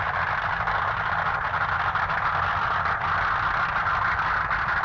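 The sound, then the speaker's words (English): A drag racing car engine idles loudly and steadily on a drag strip as Skilton's car pulls into the right-hand lane and Crane's into the left. It is a constant deep rumble with a lumpy low throb and a broad mechanical hiss, holding without revving for the whole stretch. “Skilton pulling into the right-hand lane. Crane in the left-hand lane.”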